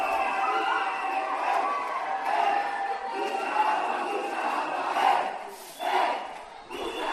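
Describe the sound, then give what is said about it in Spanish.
A dense crowd packed shoulder to shoulder in a street, without masks, chants and cheers in a continuous roar of many voices, filmed by a neighbour from his balcony. Rhythmic shouted phrases such as "agua, mucha agua" rise in swells, with a couple of louder bursts near the end. “un vídeo que grabó un vecino desde su balcón, a que esto le molestaba, es de los míos, con la calle llena de gente, apelotonado, sin mascarilla.”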